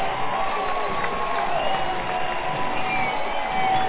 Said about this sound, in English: Viking crowd on its feet.